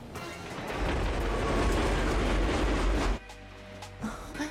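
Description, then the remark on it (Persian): A subway train rumbles steadily along the tracks with a broad, dense roar and faint rhythmic clatter, then the noise abruptly drops to a quieter hum near the end. “اگه سرعتش به 70 مایل در ساعت برسه میتونید با دوست کوچولی عزیزتون خدافظی کنی.”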